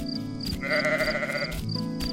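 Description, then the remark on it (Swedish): A single sheep bleats loudly, one wavering, nasal cry lasting over a second, set against a steady low background hum and a faint repeating high tone. “Det är bara fåret som vill komma in, säger Bubblan.”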